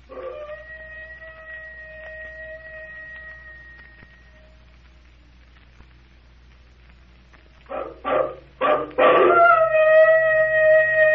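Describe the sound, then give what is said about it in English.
A wolf howls from inside a temple in a long, steady, high-pitched note that fades out, then a few short yelping bursts lead into a second, louder sustained howl. “I hope nobody in this room's a werewolf.”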